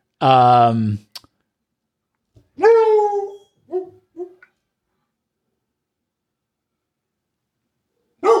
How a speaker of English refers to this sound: There's a dog barking outside. Let me guess. It's outside the studio